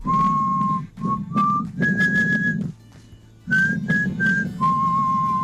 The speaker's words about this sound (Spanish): Se me olvidaba el silbido. Mira, allá va. El silbido.